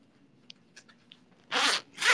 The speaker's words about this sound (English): The zipper is stuck. There you go.